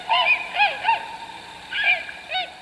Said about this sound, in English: Tundra swans produce a high-pitched call that has been likened to many things.